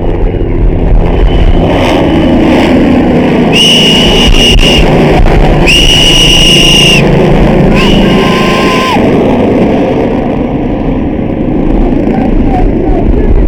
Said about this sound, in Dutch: Nou, eindelijk komt de helikopter.